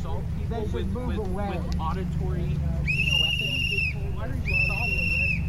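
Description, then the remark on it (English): A man blows two shrill whistle blasts into people's ears, each held for about a second with a short gap between, cutting loudly through a steady low rumble and murmuring voices in the background. “He's got his camera, and he's filming the guy with the whistle.”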